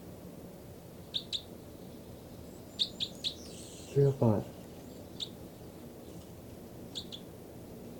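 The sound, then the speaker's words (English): Two birds, numbered 305 and 306, give short, high chirps and quick chittering calls in scattered bursts, some doubled, 305 calling continuously and 306 chittering and giving one loud call and one response, over a soft background hiss; midway a man briefly says a word. “Both birds mainly.”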